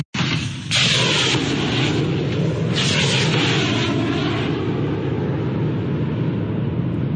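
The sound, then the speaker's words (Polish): A heavy military fire-control vehicle's engine roars steadily and loudly as it drives onto firing position number 3 on the right, a dense continuous rumble with brief hissing swells on top and no voices. “Właśnie na stanowisko ogniowe numer 3 po prawej stronie wjechało urządzenie kierowania uzbrojeniem.”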